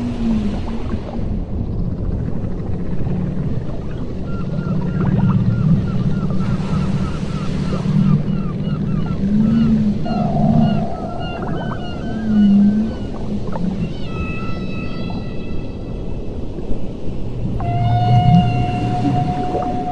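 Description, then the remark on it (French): Whale vocalizations echo underwater: a series of drawn-out tonal moans, squeaks and rising whistles with layered harmonics, repeating irregularly over a steady low rumble of water and engine noise. “J'ai l'impression que c'est une baleine.”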